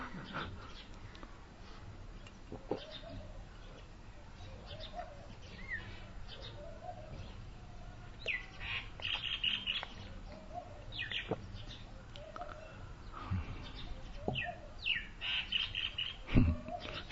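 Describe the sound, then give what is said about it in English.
Mynah birds chatter and call in a steady, noisy mix of whistles, squawks and sharp chirps, with several birds calling and overlapping throughout, growing busier toward the end. “These aren't parrots, but they're minor birds.”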